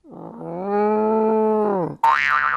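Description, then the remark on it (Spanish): A person's voice imitates a cow with one long, low, droning moo that swells and holds steady for over a second, then cuts off into a brief, higher, wavering sound. “Sí, me salió bien el sonido de la vaca.”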